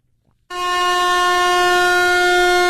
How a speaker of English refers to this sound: I'm going to get out that air horn and I'm going to stick it to the telephone and I'm going to let it rip.